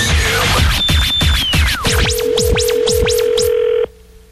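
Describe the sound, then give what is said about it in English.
Loud telephone sounds with no talking as a prank phone call is placed on the Mojo Joe in the Morning show: a quick run of rhythmic dialing beeps, then a steady tone with warbling, swooping ring-like chirps layered over it before cutting off abruptly. “Now, another world-famous Mojo Joe in the Morning phone scam.”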